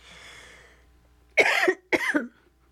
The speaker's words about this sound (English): See, it's making me cough.